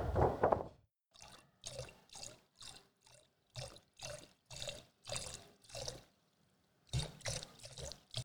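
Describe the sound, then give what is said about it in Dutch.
Rough ocean waves on a beach surge and splash in quick, repeated bursts as the wind picks up, each rush of water rising and falling in a steady rhythm, moderately loud with no voices. “En de golven worden wilder.”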